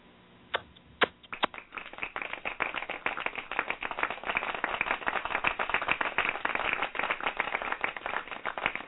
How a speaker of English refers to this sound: a round of applause can be heard from the cabin.